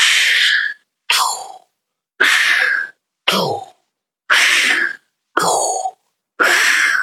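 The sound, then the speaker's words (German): Loud breathing exercise: a quick sharp inhale followed by a forceful, hissing exhale, each in-and-out done within about one second, repeated in a steady rhythm about three to four times with short pauses and no talking. “da machen wir einfach diese Stützbewegung innerhalb wirklich einer Sekunde. Das heißt, wir atmen ein und schicken dann die Luft raus”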